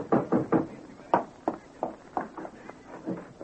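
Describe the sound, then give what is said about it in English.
Someone knocks on a door about ten times in a quick, uneven series, each knock sharp with a short hollow ring. No one speaks over it. “I can tell by the knock.”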